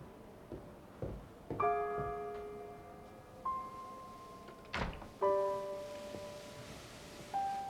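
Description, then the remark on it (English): A door thuds shut with a dull, solid knock, preceded by a few softer knocks and bumps, while gentle sustained music plays quietly underneath. No one speaks. “Hearing the door, she slowly wakes and sits up in her bed.”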